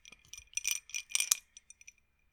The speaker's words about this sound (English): Now I'm going to grab another ice cube.